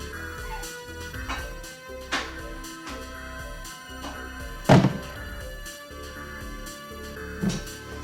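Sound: knocking on a door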